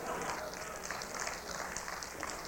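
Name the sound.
audience clapping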